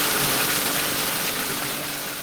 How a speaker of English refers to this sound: giving us a wee demonstration of how they get groundwater up. And he's fairly had to puppet that. The engine's jumped into life and we've just been squirted by water. So despite being beside that huge reservoir, this is how they have to get water.